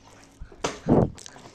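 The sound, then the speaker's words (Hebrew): A girl bites and chews a potato while riding a ride-on toy: a sharp crunchy bite, then a louder, muffled mouthful and a few softer chewing sounds, with no talking. “תוך כדי זה נוסעת על הבימבה של תבל ואוכלת תפוח אדמה, ולכן אתם שומעים כל מיני רעשים”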